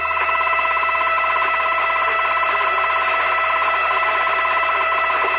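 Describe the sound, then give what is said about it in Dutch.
A steady digital radio signal fills the whole stretch, a dense buzzing warble of stacked tones with a continuous beeping pitch running through it, loud and unbroken, with no voices. “Maar Wil kan ook wel gelijk hebben, want het klinkt als een digitaal signaal.”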